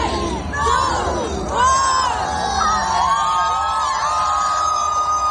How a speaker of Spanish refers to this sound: Mira, ya se empiezan a oír los abucheos. Bueno, algunos oyentes lo habrán escuchado. Son miles y miles de personas que se juntaron en Brooklyn, en Nueva York, para dar la bienvenida al Año Nuevo